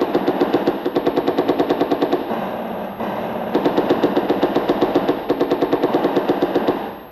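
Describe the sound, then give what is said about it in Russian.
Machine gun fire in battle at attacking enemy (fascist) infantry: two long, rapid bursts of steady, rattling automatic shots, loud and evenly paced, with a short lull between them and no voices. “Пехота противника поднимается для атаки. По фашистам огонь!”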